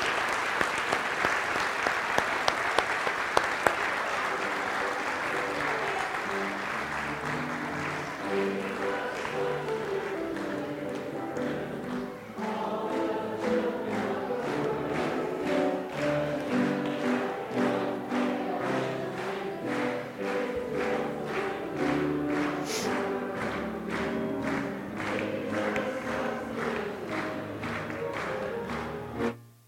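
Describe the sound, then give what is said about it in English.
A church audience applauds steadily for about half a minute as young people leave for Sunday school: dense clapping at a fairly loud, even level. A few sharper individual claps stand out early on, and no one speaks over it. “And as you guys stand up and head down to class, do you mind if we clap you out and just give you the best wishes for this school year?”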